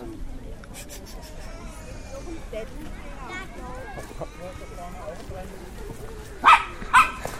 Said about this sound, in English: Okay, there's a dog. You can clearly hear it. And I think it's either afraid of the donkeys here or, well, at least it's trying to scare him, I guess.